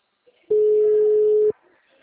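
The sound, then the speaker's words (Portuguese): A single steady, mid-pitched phone ringback tone sounds loudly for about one second while a call to a client goes unanswered, with faint murmuring voices before and after; the call is then forwarded to voicemail. “Nossa, que saco, o cliente não atende o telefone, cara.”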